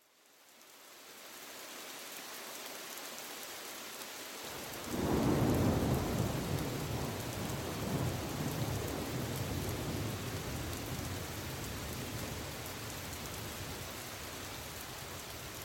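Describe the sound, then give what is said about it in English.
Steady, heavy rain hisses throughout, and a few seconds in a deep roll of thunder swells up and slowly rumbles away beneath the downpour. No voices. “It's cloudy, and you have to squint your eyes against the rain.”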